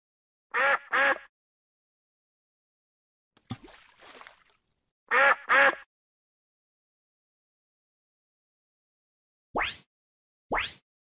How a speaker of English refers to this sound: Quack.